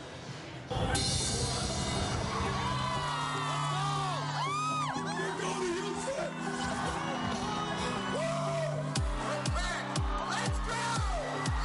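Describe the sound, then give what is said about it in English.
A large, loud crowd at a spirited pep rally for the AFC champion football team cheers and whoops continuously, with shrill rising yells and bursts of horn-like tones cutting through the steady roar, ending in a series of deep thumping beats. “After a spirited pep rally, the AFC champions boarded their buses for a trip to Logan.”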